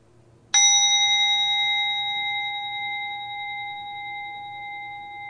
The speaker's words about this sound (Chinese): 请大家随住钟声翻去觉察你嘅呼吸，吸气，呼气。